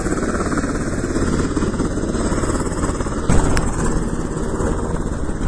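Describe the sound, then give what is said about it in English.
A Black Hawk helicopter's engine roars steadily and loudly with a dense, churning rumble as it lifts off from a flight line, with a brief sharp burst partway through before the heavy drone carries on unbroken. “We've got a Black Hawk helicopter about to lift off here.”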